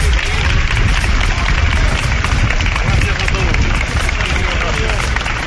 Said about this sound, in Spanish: aproximadamente hace 10 minutos, que la familia de Adolfo Suárez salía del templo catedralicio, finalizaba ya el último adiós al expresidente del gobierno, y como sucedía en la entrada, era saludado por aplausos por toda la gente aquí congregada.